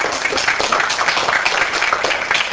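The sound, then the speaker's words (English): An audience applauds, a dense, steady wash of many hands clapping that holds at an even loudness for a few seconds, with no voices over it. “I think that's worth a tongue round of applause,”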